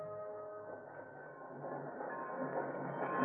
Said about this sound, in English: drives to the station, where they watch inbound trains arrive.